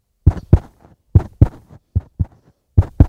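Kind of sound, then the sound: sound effect, heartbeat sound effect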